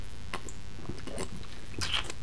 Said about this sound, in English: I'm going to take a drink of water now, so I have to make noise so the dead air alarm doesn't go off.